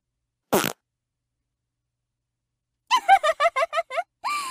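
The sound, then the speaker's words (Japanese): A short, sharp fart bursts out near the start, then after a pause a rapid series of bubbly, sputtering fart pulses follows, ending in a longer buzzing one. Close and fairly loud, with no talking. “おならが大したことないなんてほざいてた”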